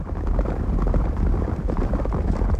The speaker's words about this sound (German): Irgendetwas rattert, fährt über eine Schotterpiste? Ja, das sind Pferde, die galoppieren. Und wo kann man galoppierende Pferde sehen? Auf der Trabrennbahn.